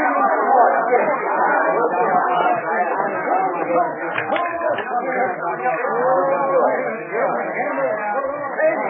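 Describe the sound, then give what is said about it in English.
A dense, steady babble of many overlapping voices in a crowded bar, busy crowd chatter with no single speaker standing out, holding a constant level throughout. “Some crowd, huh?”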